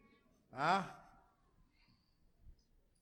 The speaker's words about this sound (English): Did you raise your hand or you're stretching? Yawning, early morning.